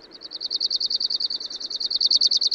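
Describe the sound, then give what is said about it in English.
An Arctic warbler sings a fast, dry, even trill of high buzzy notes, repeated steadily for a couple of seconds, clear over a faint low background rumble. “As does the Arctic warbler.”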